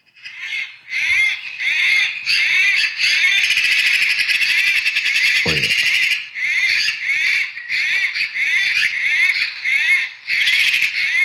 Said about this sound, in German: Naja, aber diese Elster und dieses Geräusch.